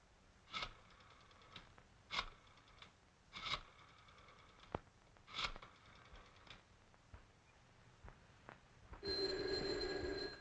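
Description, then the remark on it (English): Sharp clacking and clicking sounds come in irregular bursts, then a telephone starts ringing near the end, a steady, bright, fairly loud ring with no voices. “I thought I told you not to put any calls through.”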